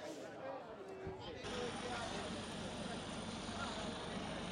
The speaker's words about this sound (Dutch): Nou, het begint nu spectaculair te worden. Want er hangt hier nu een helikopter.